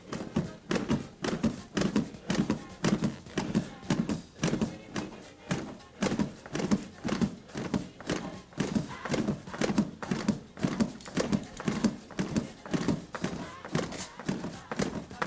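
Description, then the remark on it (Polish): Steady, rapid thumping of chest compressions on a CPR manikin, about two dull presses per second, continuing evenly throughout with a faint creak under each push. “No i dalej masaż, tak?”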